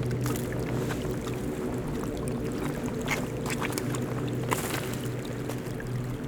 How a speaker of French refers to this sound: La neige fond et le clapotis vous réjouit.